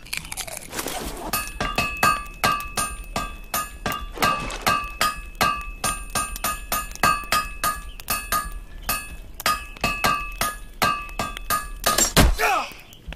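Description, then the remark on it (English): A steady run of hammer blows on metal, each sharp clang leaving a bright ringing tone, repeating quickly about two or three times a second, fairly loud. “I keep hitting myself with the hammer.”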